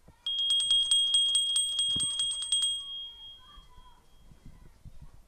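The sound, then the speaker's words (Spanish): A small handbell is shaken briskly for about two and a half seconds at a small Waldorf school, rung instead of a loud school bell, its bright, high clangs coming in a quick rapid patter before a short ringing fade, with faint background noise afterward. “Y para tocar, fíjense, nada de un timbre estruendoso, una campanilla que voy a hacer sonar para recordarles que yo ya estoy por aquí.”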